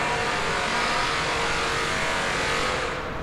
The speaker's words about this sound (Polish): Dochodzimy do dworca, do nowego dworca Łódź Fabryczna. Tutaj cały czas trwają prace, jak słychać.